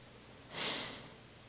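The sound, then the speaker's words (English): A voice imitates panting with a single breathy, airy huff that swells and fades within about half a second. It is fairly quiet and stands alone, with no talking around it. “So, as one commentator put it, coveting is panting after something that does not belong to you. Like panting after it.”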